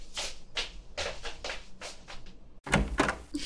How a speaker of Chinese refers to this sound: 哇，是弟弟回来了，赶紧去开门。